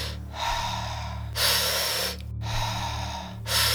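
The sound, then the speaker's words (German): Quick, forceful breathing as fast as possible in the last minute of a breathing exercise, alternating noisy inhales and exhales about once a second over a low steady hum, with no talking. “Ja, dann wirst du so schnell atmen, wie du kannst.”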